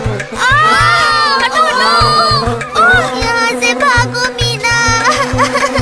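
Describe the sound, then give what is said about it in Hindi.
Many children in a classroom scream and shout at once in a loud, continuous uproar as they run here and there from bees that flew in through the window, high voices overlapping in a chaotic din, with a steady low thumping pulse underneath. “सभी बच्चे चीखते चिल्लाते यहाँ वहाँ भागने लगे।”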